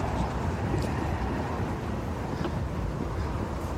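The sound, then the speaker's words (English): A truck rumbles past, its loud, steady low roar of engine and road noise filling the few seconds without letup, with no voices. “Passing the main branch. Truck.”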